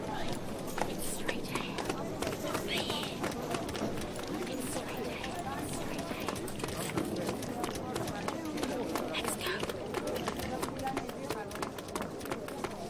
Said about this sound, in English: Just listen to the sounds for a second. This is awesome. There's some water and some people. Is that a horse?